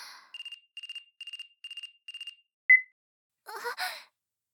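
A phone ringtone for an incoming video call plays five quick, evenly spaced trilling bursts, followed by a single short beep and then a breathy sigh.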